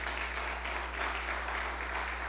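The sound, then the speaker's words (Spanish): An audience applauding the Lord in thanksgiving during a sermon, a steady wash of many hands clapping together without a break, with a low constant hum underneath and no voices standing out. “Denle un fuerte aplauso al Señor en acción de gracias.”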